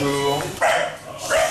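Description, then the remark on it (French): A five-month-old white, black and brown cocker spaniel puppy named Paddington barks twice at the foot of its owner's hospital bed, loud, with short sharp yaps spaced about half a second apart, after a brief higher whine at the start. “C'est un jeune cocker de 5 mois qui aboie Paddington, oh.”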